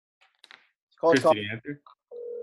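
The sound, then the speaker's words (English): A voice talks briefly, then a steady, fairly loud electronic tone begins at the end, like a phone ringback tone on an outgoing call, cut off after a moment. “Can you hear it ringing?”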